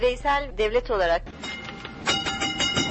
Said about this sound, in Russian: Тарахтит по рельсам старый трамвай, не помнящий своего года рождения. Истикляль – пешеходная улица, въезд другого транспорта сюда запрещен.